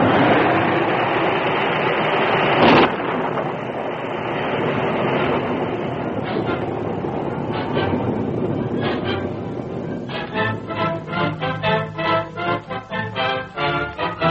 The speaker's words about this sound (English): As swiftly as it had come, the tornado passed, to be followed by a light rain.